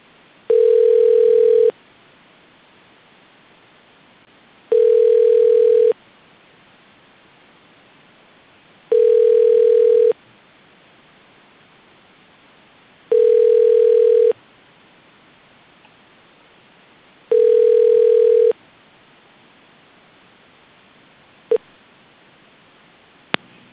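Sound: phone line tone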